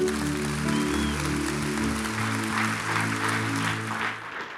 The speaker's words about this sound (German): Applaus, come on.